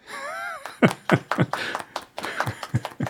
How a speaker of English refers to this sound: Okay, light applause.